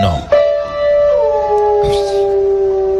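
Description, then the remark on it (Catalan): A dog left alone at home howls in a long, wavering, mournful tone that slowly slides downward while playing a piano, with a few piano notes plinked near the start and a clattery key press midway. “Toca el piano i canta.”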